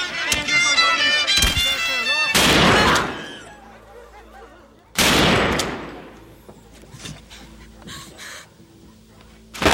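Two loud gunshots, about three seconds apart, as a woman is shot dead when a train arrives, each a sharp blast trailing off into a reverberant decay, preceded by a wavering, wailing voice and followed by quieter scattered sounds.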